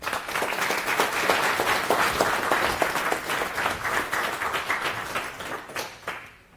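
At the end of a talk, an audience breaks into sustained applause, many hands clapping in a dense, steady patter that stays loud for several seconds before tapering off into quiet.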